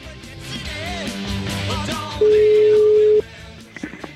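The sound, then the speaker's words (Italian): A telephone rings on the caller's end during an outgoing call to Pietro Maso, whose number was found in the phone directory: one loud, steady electronic tone lasting about a second, following a stretch of murmured background voices and music, then a few faint clicks. “cioè dice, vabbè, fammi chiamare questo Pietro Maso, no?”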